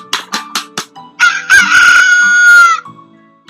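bird, rooster crowing

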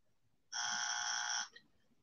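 sound effect, buzzer sound effect

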